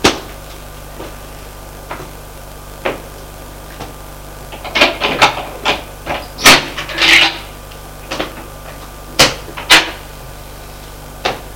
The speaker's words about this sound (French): Il y a deux autres portes, l'une en face de l'autre. Ouvrons celle de droite.